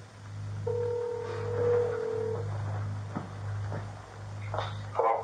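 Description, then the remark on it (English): A single long electronic ringback tone purrs through a phone line for under two seconds as a call to a father's number rings, followed by quiet handling clicks over a steady low hum. “is handed a phone with her dad's number already ringing.”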